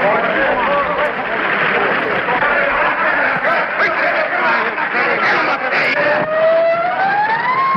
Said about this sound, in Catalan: Aquí no hi ha diàleg, no? Sirenes de la policia, hi ha trets, hi ha merder a la presó... En fi, és una mena de borratxera sonora, però això els va impressionar moltíssim, perquè era com una riquesa de contingut sonor increïble, no?